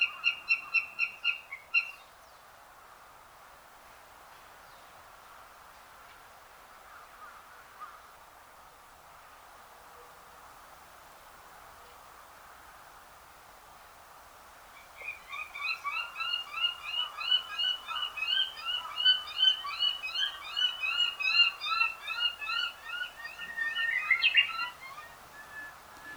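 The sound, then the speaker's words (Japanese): Juvenile northern goshawk calls recorded in 2007 at Meiji Jingu in central Tokyo: a short burst of harsh, whining notes, then a quiet pause before a long, rapid series of repeated cries, clear, with no talking. “ここ明治神宮では2007年に幼鳥の鳴き声が聞こえています。”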